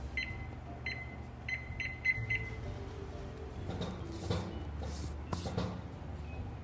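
A kitchen timer being set for 25 minutes while rolls bake in the oven: a series of short, high electronic beeps in quick, slightly uneven succession, followed by low background clatter and rustling.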